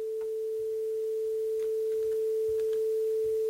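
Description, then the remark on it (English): A steady, pure electronic tone hums continuously at a constant pitch, with faint soft clicks and low thumps scattered beneath it, two layered sine waves, the second starting slightly behind the first, blending into one sustained drone. “I'm going to add another sine wave on top of it, but it's going to start slightly behind the other.”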